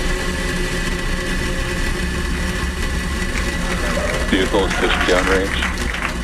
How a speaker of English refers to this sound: T-minus 10, 9, 8, 7, 6, 5, 4, 3, 2, 1, ignition, and liftoff Falcon 9. Go SpaceX, go Transporter 10.